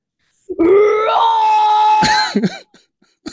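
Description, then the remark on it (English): A young boy demonstrates his metal-style screaming, letting out one harsh, drawn-out scream that rises in pitch and holds for about a second and a half before cracking off into short breathy gasps. “Do you scream like your dad, …? Yeah. Let's hear some of your screaming.”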